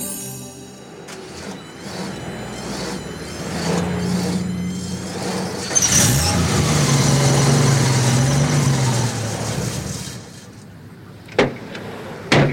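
An old car engine, a car bought that same day, idles with a steady, rattling rumble, revs up louder midway, then settles before a couple of sharp mechanical clunks near the end. No one speaks.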